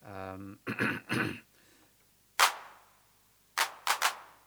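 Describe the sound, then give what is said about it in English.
A brief bit of voice comes first, then hand claps from an unmodified TR-808 drum machine: one sharp, bright noise burst at full accent, a pause, then three quicker unaccented claps, each a crisp snap with a short tail. “Hand clap in general doesn't respond all that much to the accent.”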